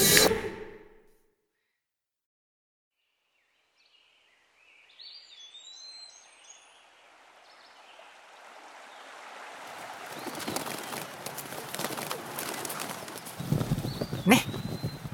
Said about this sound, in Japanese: こっちのがいいでしょ。森の匂いが落ち着くし、鳥さんたちも歌ってるし。